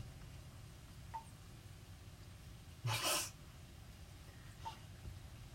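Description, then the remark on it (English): A single short, harsh throat clearing bursts out against a low background hum, with a couple of faint clicks before and after. “Let me just, there we go, clearing my throat.”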